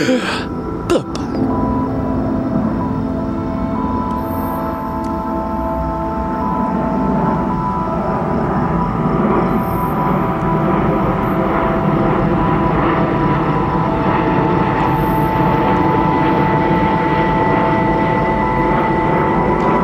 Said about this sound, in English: Here comes another plane right over my head, so I'm going to say goodbye.